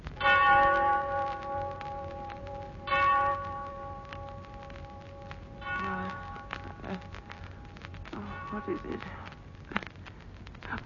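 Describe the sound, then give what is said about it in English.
A clock strikes eight with slow, deep, ringing bell strokes, each one sounding roughly every few seconds and lingering into a long humming decay before the next strike. “The Clock Strikes 8 by John Dixon Carr.”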